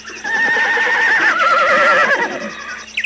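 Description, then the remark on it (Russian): A young mare on a wide meadow in a forest lets out one long, loud, impatient whinny, calling for her foal, its pitch quavering and sliding downward for about two seconds before trailing off, with no voices around. “На широком лугу среди леса мы записали нетерпеливое ржание молодой кобылицы, призывавшей жеребеночка.”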